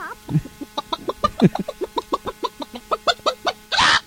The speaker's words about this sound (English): My chicken's possessed. Oh, hell no. I got a possessed chicken. That chicken sounded like it was having trouble laying that egg.